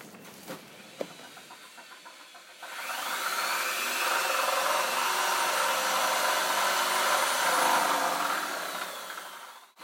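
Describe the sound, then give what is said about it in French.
A power drill starts up and grinds steadily into a wall for several seconds while an orange shelf is being put up, its harsh motor whine holding loud and even before cutting off abruptly. “Je regarde avec un plaisir non dissimulé la perceuse s'enfoncer dans le mur.”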